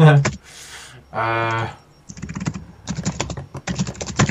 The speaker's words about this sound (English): Jeez, who's smashing the keyboard? Me, sorry.